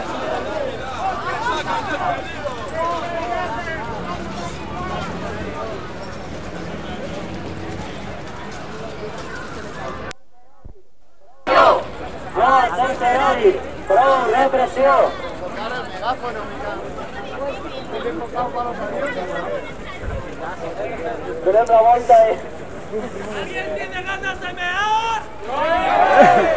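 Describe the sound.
A crowd of many voices shouts and clamors at once in the street near Colón, arriving at a statue, in a dense, continuous din, with a few louder cries rising above the mass and a brief moment of silence partway through.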